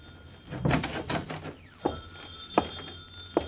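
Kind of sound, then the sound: household object, telephone ringing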